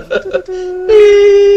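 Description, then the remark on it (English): A voice gives a couple of quick syllables, then hums a steady, flat electronic-sounding tone that swells louder and holds, imitating a telephone dial tone beep. “I was going, beep, but that's a heart rate machine, right?”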